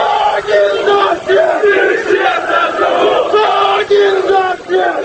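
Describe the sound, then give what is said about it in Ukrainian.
A large crowd at a Russian march in Simferopol, Crimea, on the evening of 3 November shouts loudly in unison, chant-like cries rising and falling in steady bursts with brief dips between them, the voices massed and continuous throughout. “В Сімферополі ввечері 3 листопада до маршу приєдналися активісти молодіжних радикальних об'єднань, які запалили фаєри, а деякі з них навіть зігували і кричали.”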